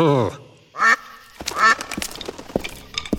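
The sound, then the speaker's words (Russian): A duck quacks three times, loud and nasal, with short pauses between the calls, followed by quieter rustling and a couple of sharp knocks. “Эта курица мечтала о камышах, реке и гнезде. В смысле утка.”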